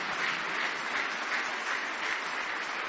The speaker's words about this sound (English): Let's give them another hand as they get ready to sing this morning.